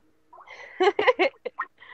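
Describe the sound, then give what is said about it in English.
A cell phone's ringtone goes off for an incoming call, a quick run of warbling, chirpy bursts, three loud ones followed by two shorter blips, clear with no talking over it. “I'm gonna answer it on my cell phone.”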